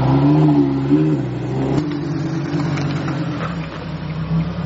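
A Lamborghini sports car engine is started and roars loudly, its deep pitch swelling and dipping as it revs, with a sharp click partway through and a steady rumbling idle afterward.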